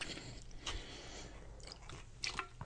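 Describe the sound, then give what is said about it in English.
Wet chewing with soft squishy bites and a few crisper crunches, continuing steadily for a few seconds with no talking. “You want to spit that out?”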